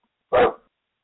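animal, dog barking

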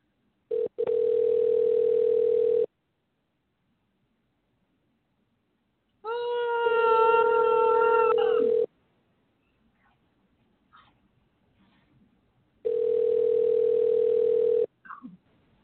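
signal or alarm, telephone dial tone

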